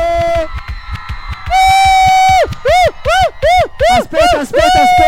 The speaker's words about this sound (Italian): Volevo sapere se ci sono più donne o più uomini. Allora facciamo così, volevo sentire l'urlo delle donne.